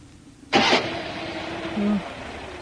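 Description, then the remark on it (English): A car engine, in a car with its windscreen gone, turns over with a sudden loud burst, then grinds and whirs steadily for a couple of seconds without catching as someone tries to start it. “Our windscreen's gone and the car's a bit of a mess, but let's see if it'll start.”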